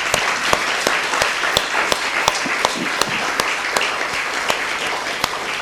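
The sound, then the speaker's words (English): Sustained audience applause at a religious retreat, given for Jesus: many hands clapping in a dense, steady wash, punctuated by a few sharper individual claps, lasting several seconds at moderate loudness with no talking. “So let us give a big clap for that Jesus.”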